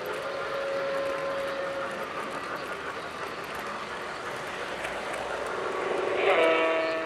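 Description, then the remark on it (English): Model toy trains run steadily along their tracks at a toy train museum in a warehouse-type building in an industrial area of Tucson, a continuous whirring clatter with sustained whistle-like tones, swelling into a brighter, louder hoot near the end. “Even though it's nestled in an industrial area, in an unassuming warehouse-type building, toy train enthusiasts come by a couple of times a month to see the trains and even run some of them on the tracks.”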